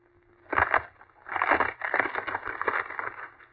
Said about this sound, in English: Professor, did you see that? He shattered the log into splinters. A very trivial feat.